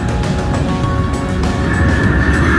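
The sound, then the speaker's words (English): A train rumbles in, heard coming from the other station, on a journey from Charing to Euston: a dense, steady low roar with thin metallic whines riding on top that brighten and swell slightly toward the end. No one speaks. “So it's always that welcome sound when you can hear the train coming from the other station and you can rumble from afar.”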